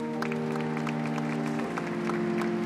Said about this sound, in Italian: Quindi, ore 9:32, il primo applauso scuote Roma e la mondovisione. Sul sagrato appare la candida silhouette di Benedetto XVI.